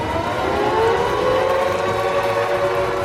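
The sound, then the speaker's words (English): A loud, big red steel siren, made in the likeness of an old air raid siren, wails steadily as former Arizona Cardinals fullback Ron Wolfley cranks it for the first time to call the players to the field. Its rising tone holds a sustained blare over a rumbling background, with no voices present. “Forged from steel, created in the likeness of an old air raid siren. It's big, it's red, and it is loud.”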